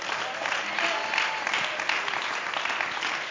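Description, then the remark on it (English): An audience claps together, a dense wash of many hands clapping steadily for a few seconds, with no voices standing out. “Somebody clap your hands if you believe that.”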